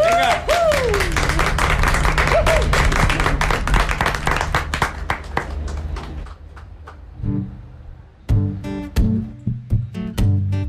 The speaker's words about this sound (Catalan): Ara podeu aplaudir. Ara podeu aplaudir.